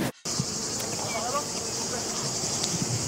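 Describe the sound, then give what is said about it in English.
A steady, continuous drone of honeybees buzzing around Angelina Jolie as she does beekeeping, like a swarm, holding an even level throughout with faint flickers of movement underneath. “She just showed off her new beekeeping skills to Vogue.”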